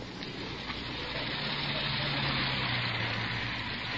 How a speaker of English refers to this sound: Yeah, Mercury sedan. License checks. Two men. Stopping at the manager's cottage.